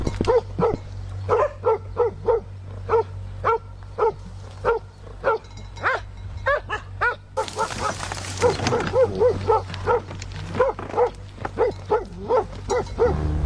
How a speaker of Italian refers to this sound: Non è il mio di cane, è proprio il film.